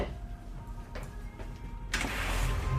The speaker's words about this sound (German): Warte mal, ich mach mal die Tür auf. Moment.